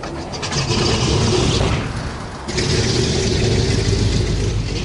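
The engine of the old propeller airplane "Lotte", taxied onto the runway and turned into position for takeoff, drones loudly and steadily with a low, throbbing hum, easing off briefly midway before surging back to full power. No voices.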